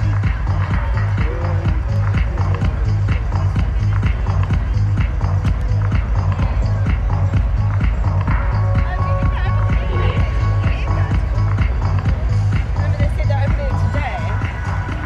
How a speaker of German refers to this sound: Der Beat kommt aus der Ferne. Ein Stampfen, ein tiefer Bass, Psychedelic Trance Music.